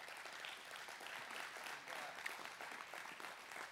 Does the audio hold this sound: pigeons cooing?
no